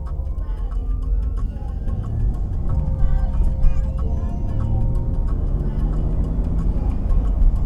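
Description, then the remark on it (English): A steady low engine and road rumble fills the cabin of a car nicknamed the Deliverator while driving, with faint rhythmic ticking and occasional light rattles over the constant drone. “This car definitely is more, how shall I say, organic.”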